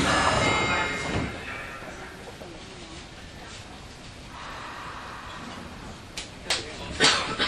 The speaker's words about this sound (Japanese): 本郷さん発車いたします。閉まるドアにご注意ください。